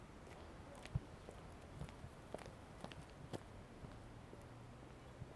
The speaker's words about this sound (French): Ce sont des talons sur du bitume.